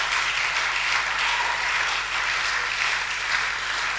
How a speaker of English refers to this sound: Oh, come on. Let's clap to God's glory.